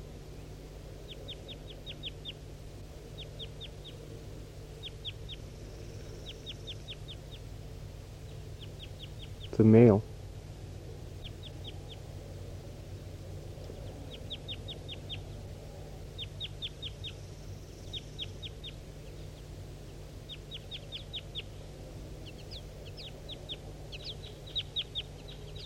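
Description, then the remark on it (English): A wild bird calls in repeated bursts of high, rapid chirps throughout, with one loud, harsh call breaking in midway. A person speaks briefly, and a low steady hum runs underneath. “So recording the wild bird.”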